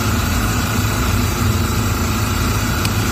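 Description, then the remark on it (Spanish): A steady, droning engine used to extract fuel from a ship with a ruptured hull runs continuously at constant loudness, its low rumble and mechanical hum unchanging throughout, with no voices. “Así son uno de los motores que llevan a cabo las labores de extracción.”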